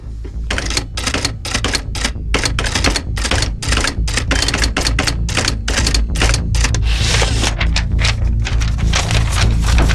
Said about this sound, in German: Prüfen wir erstmal die Schreibmaschine der Sekretärin. Wo ist Papier? Hier. So. Dann los.